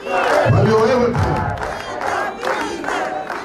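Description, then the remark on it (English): A large crowd at a Netanyahu campaign rally chants loudly in unison, many voices rising and falling in rhythmic, shouted phrases, calling him King of Israel and a magician and saying they love him, filling the whole clip without a break. “Netanyahu, they're saying, I love you, and the crowd is chanting, calling him King of Israel and a magician.”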